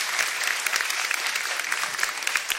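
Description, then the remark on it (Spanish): A steady burst of clapping from a small group as a tribute to Poli, dense and crackly with individual claps popping out, sustained at an even level for a few seconds without any voices. “Sí, fue un aplauso para Poli, che.”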